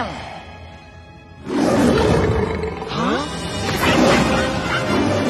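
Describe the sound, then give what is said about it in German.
A voice actor who specializes in vocal special effects imitates a lion's roar: a loud, rough, growling roar bursts in after a quiet moment and rumbles on for several seconds, swelling again near the end. “Als Experte für stimmliche Spezialeffekte hat er unter anderem die Löwengeräusche für Mufasa und Simba in König der Löwen erzeugt.”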